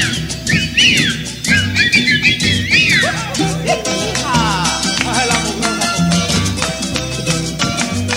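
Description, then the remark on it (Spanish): A person whistles a lively, sliding melody with swooping upward and downward notes over a steady, rhythmic band accompaniment with a thumping bass; the whistling is prominent near the start, then blends into the music. “Cada vez que yo silbaba, el viejo sudaba frío, el viejo sudaba frío.”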